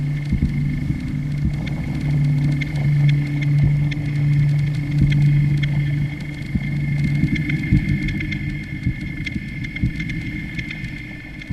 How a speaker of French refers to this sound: On va reprendre la voiture, c'est à quelques kilomètres.